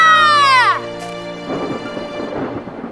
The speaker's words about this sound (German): Ein Sturm. Auch das noch. Wir müssen Schutz suchen und warten, bis der Sturm aufhört.